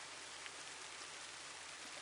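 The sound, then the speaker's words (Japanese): Rain begins to fall, settling into a soft, even hiss with faint patters of drops, fairly quiet and continuous throughout, with no voices. “やっぱ降ってきやがった。”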